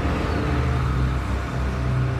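A bus rolls along a road heading from Tehran toward the Turkish border, with a steady engine drone and low rumbling road noise, continuous and even throughout, with no voices.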